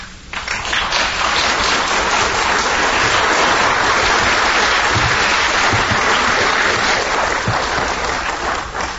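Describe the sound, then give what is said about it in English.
A crowd applauds steadily, a dense wash of many hands clapping at once that holds a loud, even level for the whole stretch without fading, and no voices rise above it. “Hunt did not want any applause”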